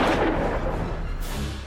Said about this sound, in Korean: 요란한 총소리가 조용히 잠든 집을 뒤흔들었다.